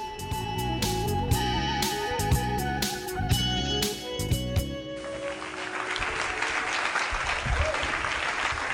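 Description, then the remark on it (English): An upbeat tune with steady beats plays for several seconds, then it cuts to a crowd's applause for Larry and the radio show Indigenous in Music: a dense, steady crackle of many hands clapping that continues loudly to the end. “Little applause for Larry there and Indigenous in Music.”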